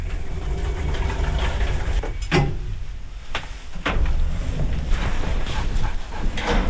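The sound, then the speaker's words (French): A small dog gives a few short, sharp barks at irregular intervals over a steady low rumble of background noise, with no one speaking. “Il est gourmand, ce petit chien.”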